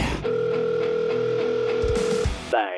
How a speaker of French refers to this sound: Et c'est moi un petit 15 secondes que je vous compose son numéro et je vous reviens tout de suite après.